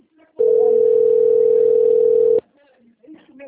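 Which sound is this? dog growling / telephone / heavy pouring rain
telephone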